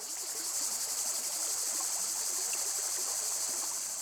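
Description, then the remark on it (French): Steady flowing water of the Vèze, a small wild river at the village of Brissac, a continuous rushing babble with no pauses, with a high insect-like hiss layered on top and no voices. “Cheminez entre sources pures et eaux usées de la Vèze, petite rivière sauvage, libre, au cours d'eau depuis longtemps utilisée par les hommes.”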